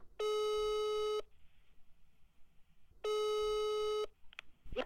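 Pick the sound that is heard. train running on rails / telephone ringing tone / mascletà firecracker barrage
telephone ringing tone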